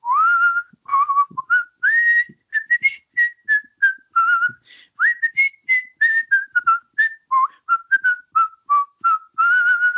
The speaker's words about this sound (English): It's kind of hard because I'm whistling into my pop filter, and I'm hoping it's coming through on your end.